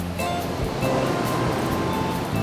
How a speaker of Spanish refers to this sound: Si cerramos los ojos y recreamos estas imágenes, casi podemos escuchar el murmullo del mar.